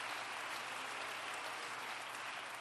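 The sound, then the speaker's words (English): An audience at an apostolic Pentecostal church service claps their hands in celebration, a steady, dense applause forming a continuous crackling wash of many hands that holds at an even loudness throughout, with no voices standing out. “Clap your hands and celebrate where you are and what time it is.”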